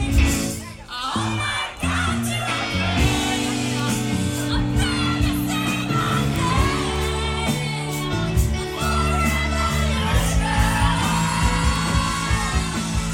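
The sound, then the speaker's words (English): A live concert crowd at a New Year's Eve show loudly shouts and sings along over a full band, with steady music and cheering voices filling the space throughout. “Hell, people screamed along.”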